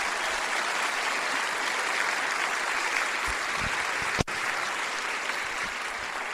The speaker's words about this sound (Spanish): Aquellos de ustedes que están aquí por primera vez, le damos, denle un fuerte aplauso a todos aquellos que están aquí por primera vez.